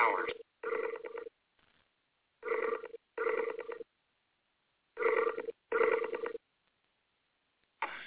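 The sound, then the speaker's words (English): A phone line rings with a double-burst ringback pattern, pairs of buzzy tones repeating about every two and a half seconds with silence between, the sound thin and band-limited like a call. “Okay, looks like we're ringing.”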